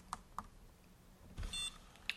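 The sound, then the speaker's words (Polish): Two soft button clicks, then a short, high electronic confirmation beep from a braille display after its first and second cursor routing keys are pressed together, signalling its Bluetooth name was saved, followed by one more faint click. Quiet, with no talking. “Słyszeliśmy krótki sygnał. I to oznacza, że ta nazwa Bluetooth została zapisana w monitorze.”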